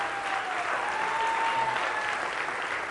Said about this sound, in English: Come on, let's give God a great hand clap of praise.